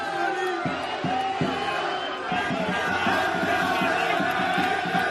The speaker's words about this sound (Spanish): es el sonido del exterior del aeropuerto, con cientos de seguidores del Betis y con Anthony con medio cuerpo fuera de la ventanilla del coche saludando a la gente.